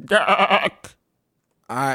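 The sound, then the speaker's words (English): A human voice, speaking as a goat man character, gives a loud, quavering bleat, then a short sharp sound, a pause, and a second bleating cry. “This is the first time that any of us ever heard a goat man talk.”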